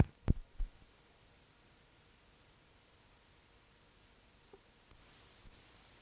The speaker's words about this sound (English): We're actually on the boat now, waiting to be put into position on the car deck.